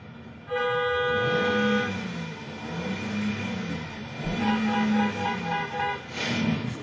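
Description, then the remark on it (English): A man in a car blares the horn as a woman tries to cross the street, in long, sustained honks, pausing briefly and then sounding again repeatedly, loud and insistent over a steady rumble of traffic noise. “behind them, they hear a commotion, and it's this guy honking as a lady's trying to cross the street.”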